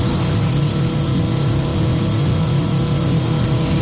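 A multirotor drone flies by, its rotors giving off a loud, steady buzzing whine with a low hum underneath, continuous and unchanging for the whole few seconds, with no voices.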